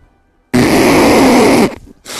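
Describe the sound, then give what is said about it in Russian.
A voice imitates nose blowing: a loud, sustained, noisy honking blast lasting over a second, followed by a short pause and the start of another burst. “Сморкается.”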